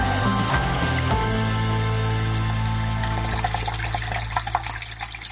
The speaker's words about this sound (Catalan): Som a la font de Casanell, a Taradell. En fem un glob, Ginesta? Vols veure una mica d'aigua?